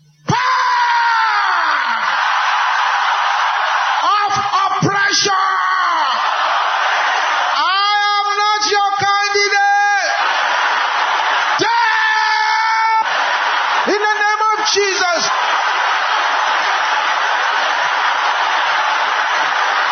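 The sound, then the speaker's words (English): A crowd shouts at full volume in a loud, continuous roar of many voices, with strained individual yells rising out of the mass now and then for the whole stretch. “Can I hear you shouting this at the top of your voice louder than anyone around you?”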